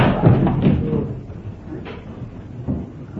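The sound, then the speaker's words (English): A wooden chair seat knocks and creaks a few times, with a heavy thud early on and softer shuffling bumps after, under faint indistinct murmur. “It sounds as though there's something wrong with that seat.”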